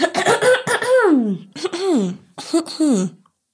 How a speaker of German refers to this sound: Warte, ich räusper mich noch einmal kurz.